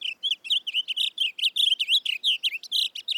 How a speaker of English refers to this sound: Today, rather than the roar of cannons, fields like Antietam are filled with the songs of blue grosbeaks.